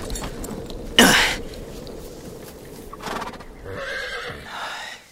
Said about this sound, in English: I suppose that's why I speak now to a horse. Whoa!